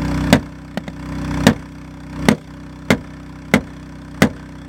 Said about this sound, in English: It takes a while before the window finally breaks. Bulletproof glass.